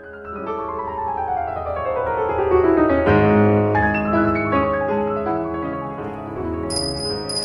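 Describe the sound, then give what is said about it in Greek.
A doorbell chime rings out clearly with no voices, its bright metallic tones overlapping and lingering for several seconds, fairly loud, with a sharp high ping near the end. “Το κουδούνι.”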